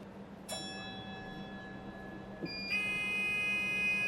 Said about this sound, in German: Die Türen schließen und mit einem Warnsignal setzt sich der Cube langsam in Bewegung. Der Cube ist ein etwas an eine kurze Straßenbahn erinnernder Kleinbus.